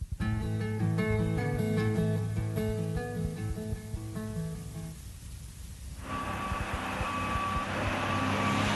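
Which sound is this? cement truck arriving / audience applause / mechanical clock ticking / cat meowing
cement truck arriving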